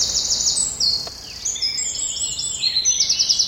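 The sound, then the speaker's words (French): A Eurasian wren, a tiny brown bird with many fine stripes and a tawny tail, sings with its tail raised right next to the listeners: a long, rapid stream of high, bright trills and sharp notes, delivered loudly and continuously with no talking. “Le troglodyte mignon. C'est un tout petit oiseau, tout marron, avec plein de petites rayures, on le reconnaît comme ça.”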